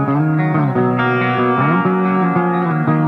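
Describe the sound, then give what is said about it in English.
A loud, gritty distorted electric guitar rings out alone, played with the guitarist's everyday dirty tone from his rig, strumming sustained chords that shift every half second or so with a thick, saturated buzz and a touch of effects. “So When I'm playing just kind of my general, this is my dirty tone, just my everyday dirty tone, everyday clean tone.”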